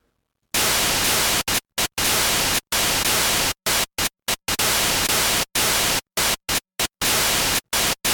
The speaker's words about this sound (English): And you can do a lot of shaping and volume automation on that white noise. So basically that'll add a bit of a crunchy sound to the snares and kick.